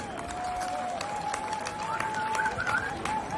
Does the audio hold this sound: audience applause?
yes